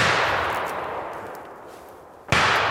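Hunting gunshots fired by a fellow hunter echo through a forest, a finishing shot for a fox caught by a dog: a long reverberating tail fades for about two seconds before a second sharp, loud crack rings out. No voices are heard.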